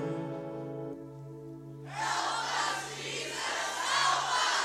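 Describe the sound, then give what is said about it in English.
A steady musical tone suddenly gives way to the loud, dense roar of a large crowd cheering, which swells and keeps going without a break until the end. “One day when I was home, I heard a mighty roar. There were 1,000 people right outside the door.”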